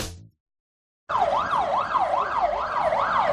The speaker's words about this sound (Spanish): Esta sirena, rompiendo el sonido ambiental de nuestras localidades, el que hay habitualmente, nos pone en alerta, ¿verdad? Pero yo diría que también nos transmite tranquilidad.